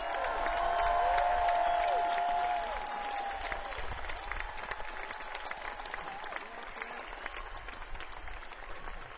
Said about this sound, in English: So listen. Huge bit of applause for the best crew on the planet.